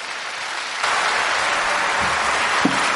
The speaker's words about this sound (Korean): 박수로 맞이해 주십시오.